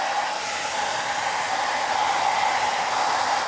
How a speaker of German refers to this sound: Stöpsel doch mal den Föhn ein. Schnell Trockenföhn.